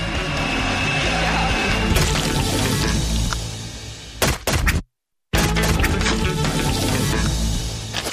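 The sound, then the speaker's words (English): A dead fish plops into water with a dull thunk, followed by a brief silence, over a steady wash of rushing water and outdoor noise. “A little thing called Drop the Dead Fish in the Blender. Oh, look at that. You can drop right in.”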